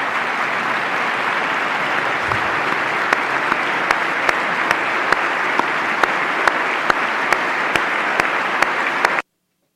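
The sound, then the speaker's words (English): Sustained, loud applause from a large crowd during a Donald Trump speech, following his tribute to Ryan, who took part in a raid. A dense steady wash of clapping with occasional sharper individual claps, continuing unbroken for about nine seconds before cutting off abruptly. “Okay, and then this applause goes, and then what Donald Trump follows it up with is this really incredible, just crass response”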